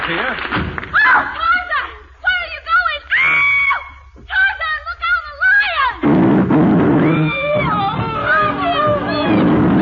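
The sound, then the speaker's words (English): A loud, rumbling lion roar swells and holds for several seconds, following a warbling, yodel-like Tarzan yell with rising and falling pitch. “Will he be eaten by the lion, or will Tarzan eat the lion?”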